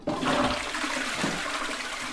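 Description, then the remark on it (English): A toilet flushes in a house in Bonn, Germany, a loud rushing gurgle of water that starts abruptly and keeps swirling steadily for a couple of seconds, with no voices. “Have you ever wondered where the water from your sink or your toilet goes?”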